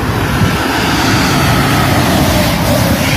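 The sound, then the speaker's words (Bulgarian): A steady, loud roar of traffic, with engine and tyre noise filling the whole stretch without a break, as cars drive past on an asphalt street. “Ей сега тези коли ще се махнат.”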